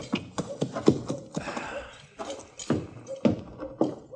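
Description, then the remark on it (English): A horse's hooves clop along at an unhurried walking pace as the horse is taken around to the livery stable, a steady series of hollow knocks about twice a second, with a faint murmur of indistinct background sound beneath them. “You take my horse on around to the livery stable, will you, Chester?”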